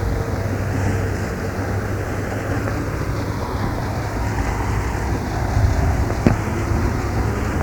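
A steady, low engine drone from small tourist boats on a canal, with a continuous wash of wind-like noise and a single sharp click near the end. No one speaks.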